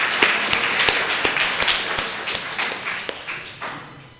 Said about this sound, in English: Let's give a round of applause to all of our Sunday school.